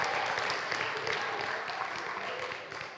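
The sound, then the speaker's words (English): A sustained burst of audience applause for the winners, dense and steady clapping from a crowd that stays fairly loud throughout before tapering slightly at the end. “All right, round of applause for all of our winners and our best loser.”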